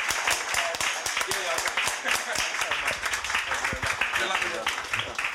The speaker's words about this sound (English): But just give a round of applause to Rufus Hound so we can shoot off. Thank you so, so much.